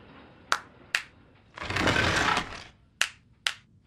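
Two sharp hand claps, then about a second of broad rushing, grinding noise as the clap-activated entrance to a headquarters in an alleyway opens, then two more crisp claps spaced the same way. No voices.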